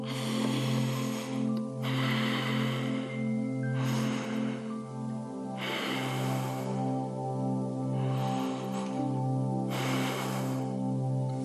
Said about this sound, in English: Right now, I'd like every one of you to briefly close your eyes and take 3 deep breaths with me.